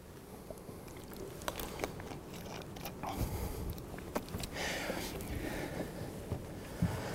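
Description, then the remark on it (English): Quiet mouth noises of someone taking a quick sip of water: a scatter of small wet clicks, slurps and a swallow over a low, steady background hiss, with no talking. “I'm going to leave you with that cliffhanger as I take a quick sip of water.”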